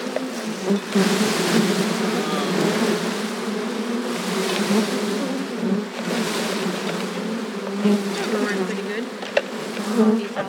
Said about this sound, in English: bees crawling all over